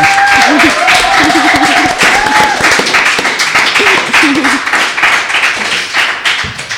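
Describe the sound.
Loud, sustained applause from an audience, a dense rapid clatter of many hands clapping, with scattered voices calling and cheering through it, fading slightly toward the end.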